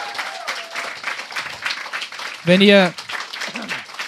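An audience at a live stand-up comedy show in a bar applauds steadily with dense, continuous clapping for about four seconds, and a loud, high vocal whoop or cheer rises briefly above the clapping midway through.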